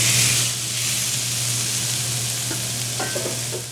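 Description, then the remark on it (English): Chili crisp marinated black cod tips sizzle steadily on a sprayed flat top grill at Beak restaurant in Sitka, a loud, bright hiss over a low hum, with a few short scrapes and clinks toward the end. No one speaks. “So I'm going to spray it and then put the cod tips right on the grill.”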